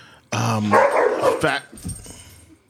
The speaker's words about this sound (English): Wow. Okay, those are our dogs, everyone, if you're wondering. I thought we graduated from animals in the background, but you know, that's for a real experience.